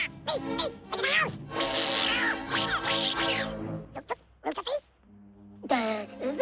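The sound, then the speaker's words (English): A voice imitates a fierce cat as a child pretends to be a cat menacing Gus. It makes loud, strained yowls and a long hissing snarl in several bursts, followed by brief rising squeaky cries. “… pretends to be a fierce cat.”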